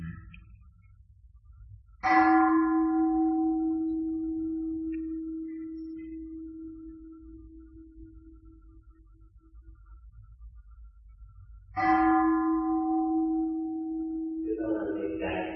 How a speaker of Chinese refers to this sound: 啊，听这你钟声玩一玩，别让心僵硬。